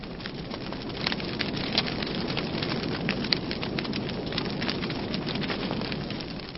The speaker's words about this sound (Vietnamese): Lẫn với tiếng mưa lộp độp như vậy, tiếng gió rào rào thì nàng vẫn nghe thấy cái tiếng chuông đồng hồ ở nhà trên rè rè điểm 10 tiếng.